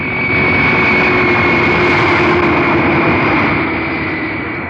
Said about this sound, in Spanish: El jet aumenta su velocidad al máximo y se desliza vertiginoso por la pista.